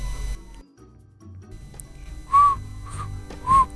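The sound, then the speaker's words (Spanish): A person whistles three short, bright chirping notes in a row, imitating a bird, distinct over a low background rumble. “También hablamos pájaro”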